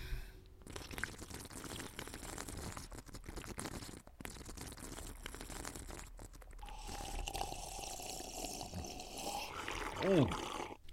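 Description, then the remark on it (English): Someone with chewing tobacco in his lip drinks milk, with wet gulping and slurping noises, a steady liquid sound partway through and a loud swallow near the end. “Why did you keep it in there while you were drinking the milk?”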